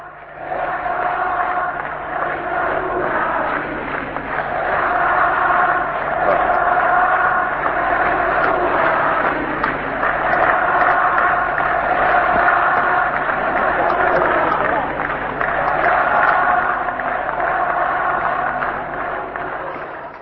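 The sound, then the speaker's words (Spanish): A huge crowd chants in unison at a rally in Uruguay, loud and steady, repeating the short rhythmic phrase "se va a acabar" over and over with a constant roar of voices underneath. “se identifican las voces de algunos de ustedes allí gritando, se va a acabar.”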